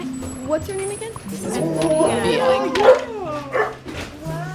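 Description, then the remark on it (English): Several dogs bark, yip and whimper excitedly, overlapping one another in an eager burst while people talk, at the doorway of a small two-story house on a tree-lined street on a spring day. “The dogs are coming.”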